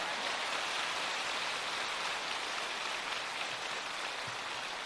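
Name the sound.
audience applause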